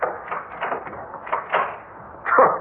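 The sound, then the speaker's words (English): A door is closed and locked: a series of short wooden knocks and latch clicks, ending in a heavier thump, with no voices. “Ah, what good is locking that door going to do?”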